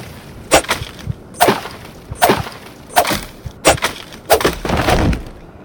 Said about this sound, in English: Okay, so I've got to chop these thorns, so I'm pressing shift. To draw out or put away your sword. Sorry. To slice through an obstacle in front of you, press up. So I'm going to slice the thorn, so up arrow.